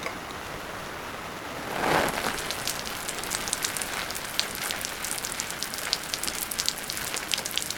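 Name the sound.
rain falling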